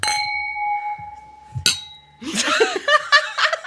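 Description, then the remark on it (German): Two bright, ringing clinks of a glass tapped against a stone in a New Year's toast in Vienna. The first chimes on with a lingering tone, the second is sharper and shorter, followed by laughter and chatter. “Die hat mit dem Stein geprostet übrigens.”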